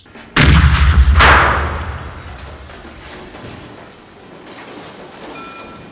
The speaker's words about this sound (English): Roland looked up as the deafening explosion loosened the tiles on the shed roof.